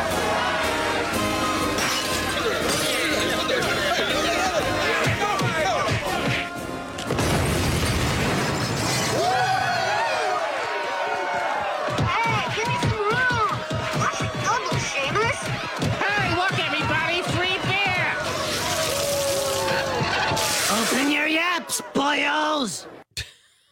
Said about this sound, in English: Oh, that's The Simpsons. And the explosion you heard was a bunch of Irish guys throwing some type of bomb at a fish and chips place. Like, that was all happening in Springfield.